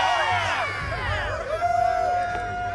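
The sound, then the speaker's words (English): A crowd cheers loudly for a few seconds, with many overlapping voices whooping and shouting at once, continuous throughout. “You may now cheer.”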